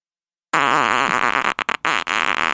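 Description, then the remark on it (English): A long, loud, buzzy fart starts abruptly after a short silence, its pitch wobbling, then sputters into a few brief breaks and bursts before trailing on. No talking. “Just rip a big hairy fart right into that bamboo trap.”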